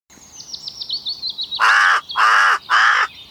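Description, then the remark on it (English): Three loud, harsh crow caws in quick succession, prominent, preceded by a thin, high twittering of smaller birds chirping in the background. No one speaks. “Bird noises. I'll edit those in later.”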